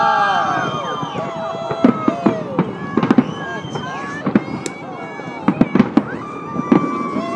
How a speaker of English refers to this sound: You can hear the crowd from Princes Street doing a countdown. There you go. Here we go. There you go. There you go, the fireworks now.